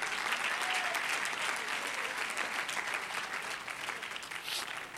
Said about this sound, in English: Why don't you clap your hands unto him and bless his name?